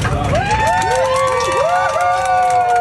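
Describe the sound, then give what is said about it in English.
Passengers on a Southwest flight cheer loudly and steadily as masks become optional, with several voices whooping in rising and falling arcs over a dense wash of excited hubbub. “First of all, why are people cheering like that?”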